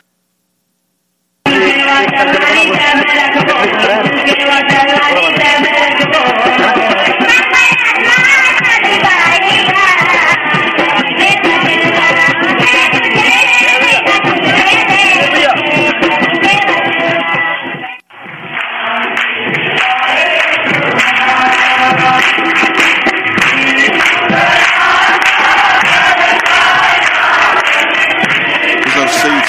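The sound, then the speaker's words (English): A crowd of probably about 1,000 people, with dancing girls, roars continuously with loud shouting of "Jamasiki" (Jesus saves) and cheering over pounding drums, a dense, steady wall of noise that cuts out for a split second partway through before resuming. “there were hundreds, there were probably 1,000 people. There were dancing girls, and there were banging drums, and there were people shouting, "Jamasiki," which means Jesus saves.”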